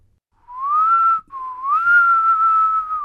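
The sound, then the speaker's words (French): A person whistles two long, sustained notes, the first rising gently and the second dipping then holding steady, clear with no talking. “Bon, quand elle veut, elle siffle.”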